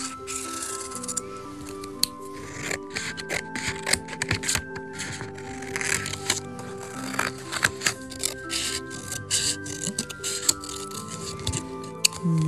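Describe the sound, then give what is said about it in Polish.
Scissors snip through colored paper in a steady series of short, crisp cuts, with light scratchy strokes of a marker tracing a shape's outline between them, over a soft steady background hum. “Ja mam tu takie mazaczki pod ręką, to sobie tym odrysuję.”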